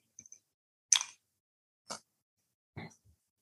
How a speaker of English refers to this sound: I'm going to have a sip of my iced tea. I hope you have iced tea too.